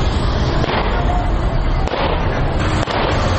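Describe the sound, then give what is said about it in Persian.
A few sharp, scattered gunshots fired into the air in parts of Kabul city ring out over a dense, loud wash of outdoor crowd noise, spaced irregularly about a second apart, with faint voices in the background. Members of a convoy carrying pistols, Kalashnikovs and knives fire the aerial shots. “شمار هم تفنگچه، کلاشینکوف و چاقو به دست گرفتند و در بخش‌های از شهر کابل شلیک‌های هوایی می‌کنند که این کار باشندگان کابل را نگران ساخته است.”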